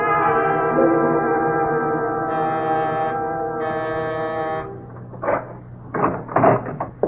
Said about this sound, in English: I'm sorry to ring your bell this late.